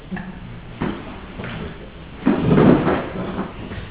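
Chairs being turned around on the floor so people face a circle: a few short knocks and scrapes, then a longer, louder rumbling scrape near the middle as they are dragged and turned, with no talking.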